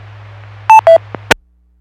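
A weak, garbled radio signal hisses over a low hum, then two short electronic beeps, a faint click and a sharp crackle of static before the transmission cuts to silence.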